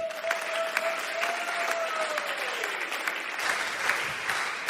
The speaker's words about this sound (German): Und wir geben dir jetzt hier nochmal einen richtig fetten Applaus.